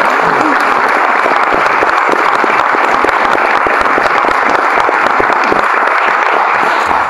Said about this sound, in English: And for that, I'd like to give them all a big round of applause.